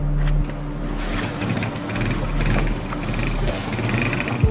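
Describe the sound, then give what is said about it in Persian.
Motorcycle engines idle with a steady, low mechanical rumble and a constant hum as men get on their motorcycles. The drone holds for several seconds without speech. “قمه ها رو تو کاپشناشون جاسازی میکنن و میرن سوار موتوراشون میشن.”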